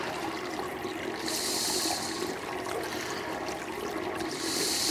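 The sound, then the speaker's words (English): Water rushes and gurgles steadily down a pipe plughole as overflow from a waterlogged fire pit, draining on into a lake, a continuous hiss with bright splashing surges that swell and fade, heard alone without any talking. “So this then overruns and comes, and there's a pipe there, and that's, you can hear it going down this plug hole.”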